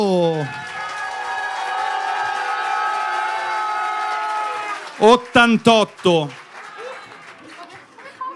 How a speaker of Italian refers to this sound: È il momento dell'applauso!